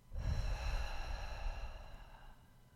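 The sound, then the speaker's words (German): A single long, breathy exhale, slow and fairly soft, breathed out through the mouth, with airy hiss fading out over a couple of seconds. No talking. “Und mach das ruhig nochmal und durch den Mund wieder aus.”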